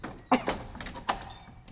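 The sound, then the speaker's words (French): A locked door with no glass left in it is pushed and rattled, giving a few sharp wooden thunks and knocks, with a brief pause between the jolts and a softer clatter afterward. “Enfin, ils ont dû bloquer la porte là.”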